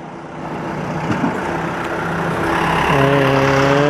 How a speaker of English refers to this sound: Okay, school bus comes.